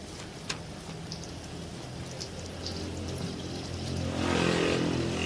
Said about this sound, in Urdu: کیا بات ہے، کل رات سے ابھی تک بارش ہو رہی ہے.